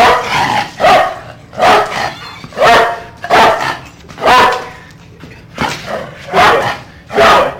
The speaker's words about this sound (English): This marks the longest time a dog has barked continuously in Rapid City history, surpassing the previous record of 8 minutes.